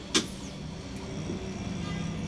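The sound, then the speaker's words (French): Steady low engine rumble of city bus 105 on the move near Paris, approaching its stop at the church in Bondy, with a brief sharp clack near the start and a faint mechanical whine over the continuous drone. “Elle prend un bus et elle arrive à Bondy où elle demande son chemin.”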